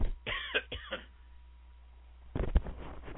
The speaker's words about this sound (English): I never cough until I start talking.